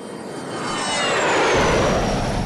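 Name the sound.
military airplanes flying overhead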